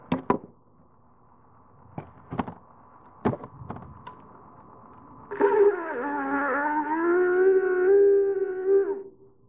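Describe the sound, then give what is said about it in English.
A few sharp knocks and taps, then a long, moaning, horn-like call that imitates a caribou, holding a low, slightly wavering pitch for about four seconds before cutting off. “And that's just about the way that beast sounds.”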